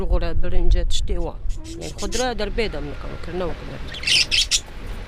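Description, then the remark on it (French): A few birds chirp and call in quick, overlapping bursts inside a tent. Near the end comes a short rustling, hissing noise of tarpaulins struck by the wind. “Dans cette tente, il y a un ventilateur et quelques oiseaux.”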